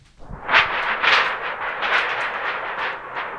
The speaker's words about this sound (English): Let me show you how they did thunder. If you had a thunderstorm, basically it would just shake a big sheet of aluminum. Let me try that for you.